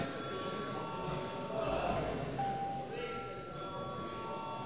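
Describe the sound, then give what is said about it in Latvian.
A steady electric call bell rings continuously for several seconds in a parliament session, calling members to vote, a sustained metallic tone over the murmur and shuffling of people. “Paldies, lūdzu zvanu.”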